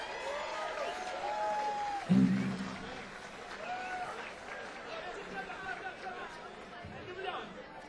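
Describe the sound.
Steady audience applause fills the whole stretch, with a louder burst of clapping partway through, mixed with crowd chatter and voices talking and calling out over it.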